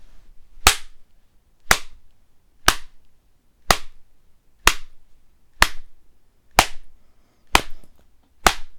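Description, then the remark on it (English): Nine sharp, crisp slaps of a hand spanking a bare left thigh, landing at a steady pace of about one per second, fairly loud with quiet gaps between and no talking. “So now I'm going to be spanking it a little bit.”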